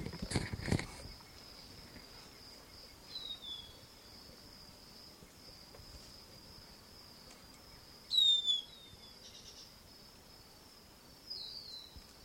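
wild bird calling

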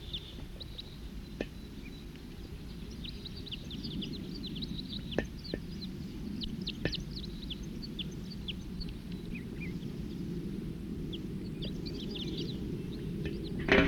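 wild birds calling

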